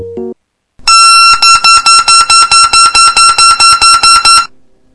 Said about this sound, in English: That was a Beep Baseball right after pulling its pin. This week's focus topic is basically that ball and other equipment needed for the game and how it is all made in Denver, Colorado.